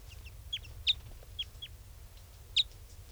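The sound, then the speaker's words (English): A small flock of four type 5 birds, one a red male and the others brown, gives sharp, high chip calls. About half a dozen calls are scattered irregularly over a few seconds, above a steady low rumble. No one speaks. “There's a flock of 4 type 5s here now, and one's a red male, and the others are brown birds.”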